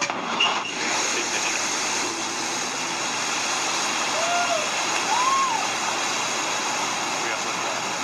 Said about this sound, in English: We have liftoff. A new Shepard has cleared the tower on our way to space with our first human crew.